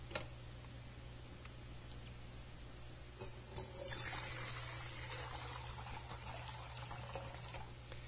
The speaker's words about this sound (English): I'm going to pour the baptismal water.